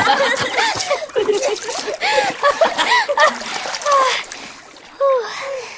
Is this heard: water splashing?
yes